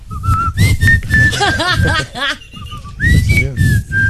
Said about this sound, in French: Il a mal sifflé.